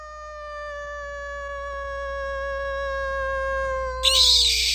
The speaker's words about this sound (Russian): В этот момент под сводами подвала послышалось гулкое завывание. Оно началось откуда-то издалека и стало быстро приближаться.